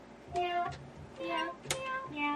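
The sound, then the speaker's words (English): A toy keyboard set to its meow setting plays a quick run of synthetic cat meows at different pitches, each a short tonal note with harmonics, three or four in a row, with a faint background hum. “There's not enough meow keys.”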